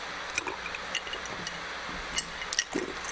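Someone quietly sips and swallows water, with a few soft, wet gulping clicks spaced unevenly over a faint background hiss. No one speaks.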